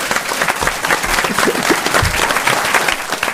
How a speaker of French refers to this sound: On peut applaudir et remercier Fabien Antoniente.